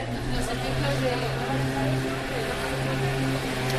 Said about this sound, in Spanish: Así sonaba aquel mes de septiembre la noche madrileña, el silencio roto por el paso de una moto, casi nada de tráfico tras el toque de queda.